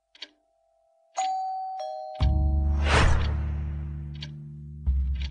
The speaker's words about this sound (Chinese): 门铃居然在这个时候响了，我的心一下子提到了嗓子眼，而你们却是对视一笑，丝毫没有任何的犹豫。